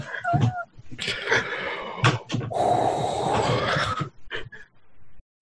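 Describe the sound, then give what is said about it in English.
Loud, heavy breathing: ragged, noisy huffs and snorting exhales in uneven bursts, one long raspy breath in the middle, likely a person performing the panting on purpose. “Breathing heavily.”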